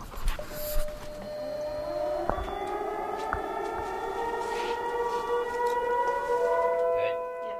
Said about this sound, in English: In addition to that, now they'll be able to hit a few buttons from a control room inside the fire hall and reach most of Petersburg. Okay, here we go. This is an all test. All three sirens.